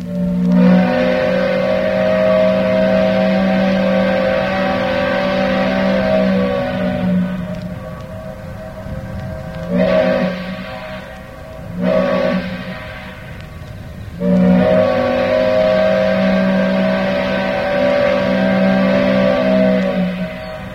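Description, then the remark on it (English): The deep steam whistle of the towboat George M. Verity sounds a long, loud, chord-like blast, then two short toots, then another long sustained blast, with a breathy hiss under the tone and no voices. “This is how it sounded on the towboat George M.”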